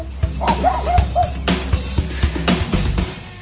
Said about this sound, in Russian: Мы бежали, не разбирая дороги, петляли между деревьями, а вслед нам несся хриплый лай.